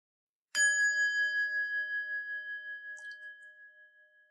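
A single meditation bell is struck once, ringing out clearly with a bright metallic tone that sustains and slowly fades, its gentle wavering shimmer lingering for several seconds in an otherwise quiet space.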